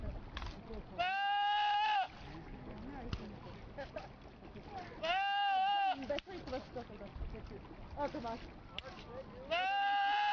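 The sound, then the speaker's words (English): A goat, in a YouTube video with 2 million views, lets out three loud, drawn-out yells, each lasting about a second and sounding strikingly like a man shouting, spaced a few seconds apart over a steady, noisy background. “This is a goat yelling like a dude.”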